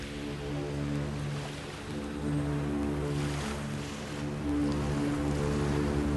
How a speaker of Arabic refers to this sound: أنصتوا وراقبوا هذه السفينة. من أين يأتي هذا الصوت يا أمي؟ إنه آت من السفينة.